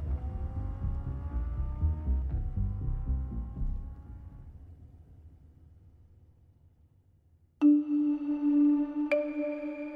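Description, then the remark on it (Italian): A getaway car engine, left running at a back door for thieves fleeing a vault robbery, revs and accelerates loudly, then fades as it drives off, followed after a quiet moment by a sudden, steady electronic tone. “scappano da una porta sul retro dove Notar Bartolo li aspetta con il motore acceso”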